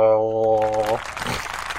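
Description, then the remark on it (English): A crowd cheering sound effect used as an intro: a short, loud burst of cheers and applause sweeps in after a brief sustained horn-like tone, filling the remaining second or so. “Well, not with that crowd intro.”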